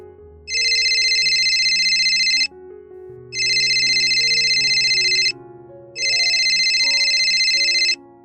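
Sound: phone ringing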